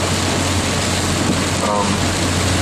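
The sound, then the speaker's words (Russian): A heavy rain downpour roars as a loud, dense, unbroken hiss that stays steady throughout, with a low constant hum underneath. “Разверзлись хляби небесные.”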